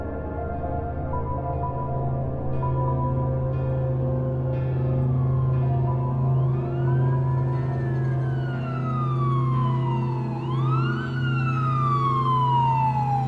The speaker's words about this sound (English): I woke up the next morning to sirens.